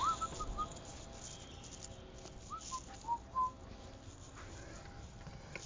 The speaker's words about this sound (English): Oh, well. Sorry, I felt so sad for it. I could touch the bird. He's just, like, freaked out and just flying into the window.